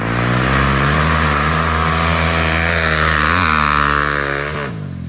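A loud, raw motorcycle engine without a muffler idles and revs, its harsh unmuffled roar rising and falling in pitch before easing off at the end. No one speaks.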